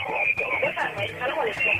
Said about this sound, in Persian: من فکر میکنم شما دارین صدای ما را از میخواین از رادیو بشنوین، پس بهتر از تلفن تا قطع کنین و بشنوین.